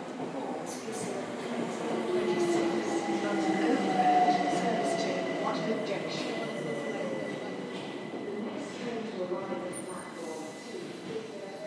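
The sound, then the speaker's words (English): A Bakerloo line underground train idles and rumbles at the platform of Queen's Park station as it is taken out of service, its motors whining with gliding tones over a steady mechanical roar that swells slightly, with faint voices murmuring in the background. “Yeah, so basically they're taking the train out of service here, I think. Bakerloo line train.”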